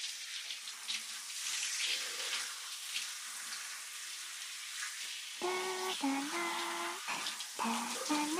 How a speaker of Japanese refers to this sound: それでは改めて泡を流しますね。 温度は問題なし。 では行きますよ。